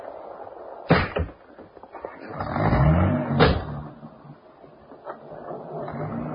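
Two solid car doors thunk shut a couple of seconds apart, and between them an engine starts and revs up, a low rumble that fades as the car pulls away.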